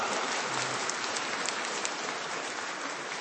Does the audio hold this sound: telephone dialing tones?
no